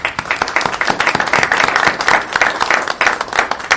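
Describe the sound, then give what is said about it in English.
A round of applause from a crowd for a Boy Scout's family being introduced at a City of Franklin recognition ceremony, dense overlapping claps forming a steady, loud crackling wash that continues throughout without pause or talking. “What a nice round of applause.”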